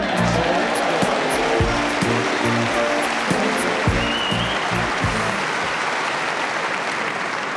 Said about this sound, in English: The way you're clapping, it was miles out.